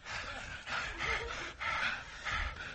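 Heavy, ragged breathing of two frightened people hiding in a dark closet: about five loud, airy inhales and exhales in quick succession, with no talking, sounding tense and out of breath.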